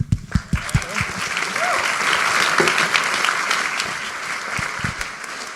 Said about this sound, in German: Darf ich einen Applaus?